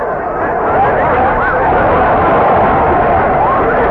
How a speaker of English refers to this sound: The crowd's going mad.